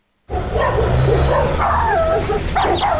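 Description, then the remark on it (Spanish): Several neighbors' dogs bark and yip over one another in a loud, continuous burst, with some higher whining yelps mixed in, with no voices. “Que los perros de tus vecinos se pongan a ladrar todas las tardes no suena nada bien.”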